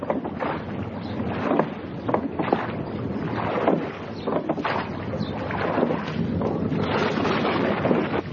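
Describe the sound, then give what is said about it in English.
Oars splash and pull steadily through choppy water as a boat is rowed during a storm, a continuous rhythmic sloshing, with gusts of wind rushing over the surface and no voices. “Start rowing, brothers.”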